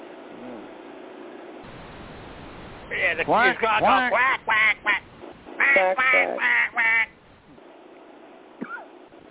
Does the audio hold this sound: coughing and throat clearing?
no